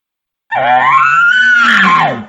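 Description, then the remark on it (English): A loud, aggressive imitated bull elk bugle, the kind a bull directs at another bull: one sustained, strained high whistle that rises, holds for about two seconds, then drops away, with a raspy low growl underneath. No talking. “Give him that little aggressive bugle you just did. That was awesome.”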